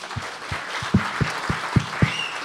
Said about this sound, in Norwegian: Det her var liksom jomfruturen for oss i Gjørum Live publikum, og dere har vært et veldig bra publikum. Ja. Ja, så jeg synes vi skal gi dere selv en god applaus.